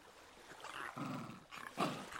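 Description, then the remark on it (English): A soft, hesitant, timid animal growl from Alan, hidden behind a woman's legs, rumbling in two short low bursts with a brief pause between them, fairly quiet, with no talking. “From hidden behind her legs, Alan gave a timid growl.”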